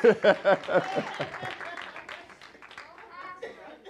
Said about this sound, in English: Come on now, you're supposed to be clapping at this point. Come on, I hit that turn.